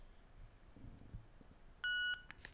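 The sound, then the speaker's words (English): A single short electronic power-on beep, steady and clear, rings out from a Victor Reader Stream audio player as its power button is held in, after a few quiet handling sounds, followed by a couple of faint clicks. “So I'm going to now hit the power button, and hold it in until we hear a beep.”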